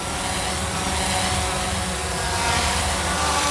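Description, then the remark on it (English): A dense, steady whine of hundreds of delivery drones buzzing overhead in a crowded city, their layered propeller hum forming a continuous loud drone with no pauses and no voices. “Imagine a crowded city with hundreds of delivery drones buzzing by at all times.”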